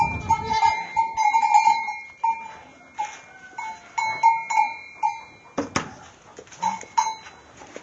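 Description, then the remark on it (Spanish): A crowd of goats bleats over and over in a stable as they are being tended, the calls overlapping, with faint bell clinks and a brief clatter partway through; no one speaks. “Entrando a la cuadra a despachar las cabras.”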